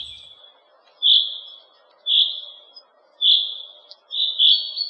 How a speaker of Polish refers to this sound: Jest jeszcze jeden rodzaj śpiewu zięby, to takie wibrowanie pojedyncze. Tak właśnie jak na tym nagraniu. Mówi się, że zięba odzywa się w ten sposób na deszcz.